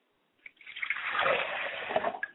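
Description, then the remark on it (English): Water pours steadily into a glass as a libation for a mother's spirit, for about two seconds, with a bubbling, splashing texture that swells and then tapers off. No one speaks. “Pour a glass of water for my mother's spirit, and I say drink well, mother.”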